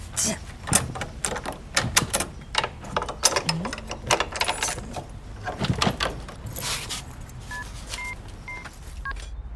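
The house key to a new apartment jingles in a quick, irregular flurry of bright metallic clinks for several seconds, followed near the end by a short series of phone keypad tones.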